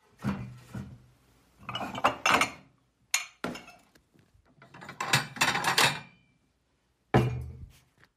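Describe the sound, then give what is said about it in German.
Dishes clatter as plates and cups are taken from a cupboard to set the table for breakfast, with several knocks and clinks in uneven bursts, a sharp thunk or two, and a short pause before a final clatter. “Teller und Becher aus dem Schrank.”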